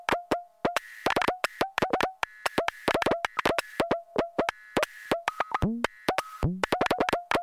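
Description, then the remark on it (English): Synthesized tapping from a website demo of a multi-channel sound called Quiet Tapping: a rapid, irregular stream of crisp electronic clicks with a steady mid-pitched tonal ring, a few dropping to lower, plopping blips. No voices, just the busy tapping pattern throughout. “Quiet Tapping.”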